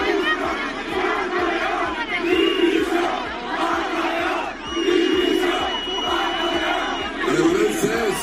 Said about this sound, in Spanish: fue interrumpido en numerosas ocasiones por los jóvenes del pueblo al grito de Paco León, dimisión.